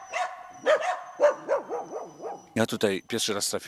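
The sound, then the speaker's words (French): Several dogs of former Polish prime minister Włodzimierz Tymoszewicz bark and yelp in quick, overlapping bursts in the courtyard of the old forester's house, fairly loud, with a whining, wavering yowl in between and a denser volley of barks toward the end. “Dans la cour de l'ancienne maison du garde forestier, entouré de ses chiens, l'ancien premier ministre polonais, Włodzimierz Tymoszewicz.”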